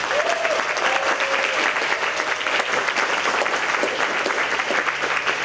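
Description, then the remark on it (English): A crowd at EMF Camp claps steadily and loudly for a speaker about to give her talk, a dense wash of many hands that holds at full strength without fading, with a faint whoop or two mixed in. “and oh, I'm just so excited for this talk, so I'd like you to give her an enormous EMF round of applause.”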